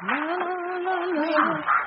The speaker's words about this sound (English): There's a couple of geese that have broken out of their box. I'll have to corner them in the water closet.